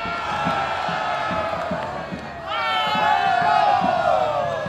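A large crowd at the Landshut Wedding (Landshuter Hochzeit) cheers and shouts the traditional 'Hallo' call as the procession sets off, a dense, sustained roar swelling louder halfway through with a burst of high whoops and rising calls over steady low rumbling.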